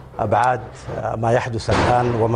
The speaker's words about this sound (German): Ein düsterer Tag für das Land. Im Fernsehgebäude will der Sprecher die Schlagzeilen verlesen, dann sind Schüsse zu hören.